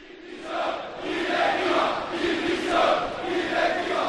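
A large crowd of Valencia football fans chants in peaceful protest outside the Mestalla stadium after a defeat, against Peter Lim, Miguel Ángel Corona and the club board and calling the players mercenaries, voices rising and falling in a steady rhythmic cadence, loud and continuous throughout with no single speaker standing out.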